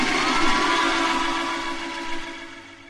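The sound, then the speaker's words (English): A single sustained train whistle blows loud, its steady tones holding for a few seconds before slowly fading, with no voices over it. “can we hear the train whistle one time?”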